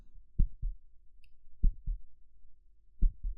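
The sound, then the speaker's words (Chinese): A muffled heartbeat thumps in low double beats, three lub-dub pairs at an even pace, with no voices over it; it is a young man's heart beating fast while he is hugged by a girl. “你的心跳得好快呀，第一次被女孩子这样抱吗？”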